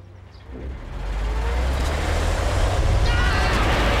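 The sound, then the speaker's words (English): A delivery lorry rumbles past on a road, its deep engine growl swelling loudly within the first half second and staying heavy and steady with broad road noise. “As they watch the car drive away, the delivery lorry drives over them.”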